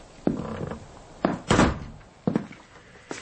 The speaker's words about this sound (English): Close the door.